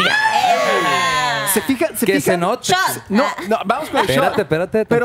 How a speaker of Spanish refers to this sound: ¿Se fijan que el grito fue diferente? No fue con los buenos de Culiacán.